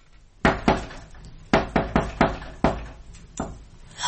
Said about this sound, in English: The sacred knock!